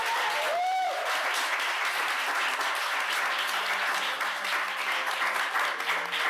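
Sustained audience applause at the Science Museum in London, a dense steady wash of many hands clapping at an even loudness throughout, with a brief high whistle-like tone near the start.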